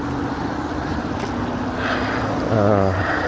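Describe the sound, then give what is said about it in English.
Steady traffic roar from cars passing at the intersection of McKinley and St. Mary, a constant low rumble with a louder engine swell near the end. Faint voices mingle with the noise. “Okay, I'm approaching the intersection of McKinley and St. Mary, which is where my building is located. You can probably hear all the cars.”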